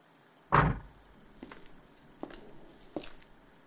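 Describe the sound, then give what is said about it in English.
A door opens with a loud thump as a roommate arrives, followed by three soft, evenly spaced footsteps or knocks as they come in. No one speaks. “That's our other roommate! Quick, close my bedroom door!”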